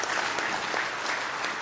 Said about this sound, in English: Give him a big hand clap of praise in the house of the Lord tonight.